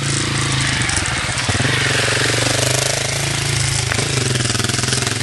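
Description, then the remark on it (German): A loud motorcycle engine drones with a rough, rapid throb for the whole stretch, steady and unbroken, with no voices over it, as a motorcycle comes along a steep forest trail in the Alps. “Und da kommt ein Motorrad.”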